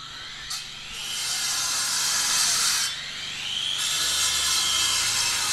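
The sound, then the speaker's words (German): A loud, continuous high-pitched whining drone, like a power tool or cutter running, with brief pauses and rising pitch sweeps, over a low rumbling background at a construction site on Johannesplatz in Erfurt, Germany. “Wir befinden uns in einer Baustelle auf dem Erfurter Johannesplatz.”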